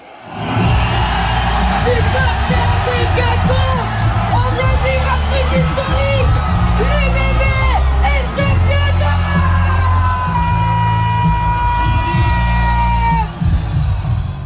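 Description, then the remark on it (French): About a thousand supporters in a giant fan zone at the Quinconces in Bordeaux, France, watching a European final on a giant screen amid smoke flares, erupt at the final whistle in loud, sustained cheering and shouting, with whoops, high screams and rising horn-like tones over a dense roar that stays at full volume throughout. “Écoutez la libération au coup de sifflet final, c'était au Quinconce justement, transformé en fan zone géante.”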